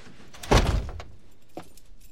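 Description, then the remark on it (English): A sharp metallic clunk of an office door closing and latching as it is locked up, followed by light jingling and a few small clicks of keys, with no talking. “Mal locks up.”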